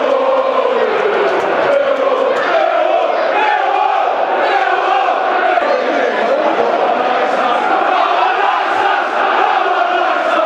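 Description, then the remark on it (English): A large stadium crowd at a football match cheers and roars continuously after a lucky goal for the Lions, a loud, dense wash of many voices that swells slightly and holds steady for the whole stretch, with shouts rising out of the mass. “That's got the crowd fired up.”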